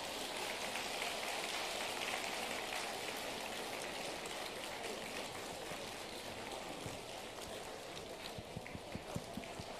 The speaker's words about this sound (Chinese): 下面，让我们以最热烈的掌声，恭请尊敬的卢军宏台长为我们慈悲看图腾。